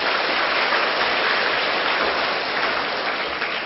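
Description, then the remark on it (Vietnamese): Steady, dense applause from a sizable crowd of young people for their honesty, a continuous wash of clapping that holds at a fairly loud level throughout and eases only slightly at the end; no one speaks over it. “Cho một tràng vỗ tay về sự thật tình đi.”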